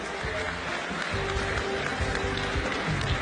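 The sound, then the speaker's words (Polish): A large crowd applauds loudly and steadily for ten candidates from Łódź Voivodeship in the European Parliament election, a dense wash of clapping filling the space for a few seconds, with faint music or cheering mixed underneath. “Proszę o ogromne brawa dla naszych kandydatów.”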